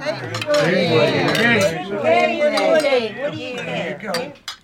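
Several sharp glass clinks ring out at irregular moments over a steady murmur of many overlapping voices, as people touch glasses together in a toast.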